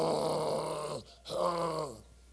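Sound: voice imitating snoring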